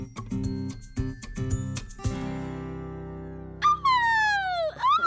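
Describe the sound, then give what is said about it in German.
A golden eagle calls with one loud, hoarse cry that slides steadily downward in pitch and lasts about a second. It follows a short stretch of rhythmic, pulsing music. “Was war das? Ein Steinadler.”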